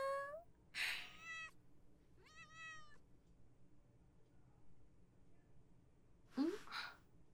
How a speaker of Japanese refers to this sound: 少し前に校舎裏で見つけて、気まぐれに構ってあげたの。そうしたら、見ての通り、ものすごく懐かれちゃって。気づいたら、こうして保健室にまで会いに来てくれるようになったの。ねえ、子猫ちゃん。